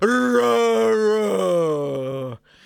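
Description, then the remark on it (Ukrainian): A voice imitates a hippopotamus roar: one loud, sustained groaning bellow lasting a couple of seconds, wavering slightly in pitch before cutting off abruptly. “І ад радасці бігемот зароў на ўсю акругу.”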